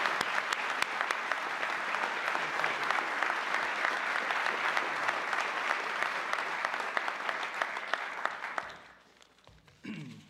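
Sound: round of applause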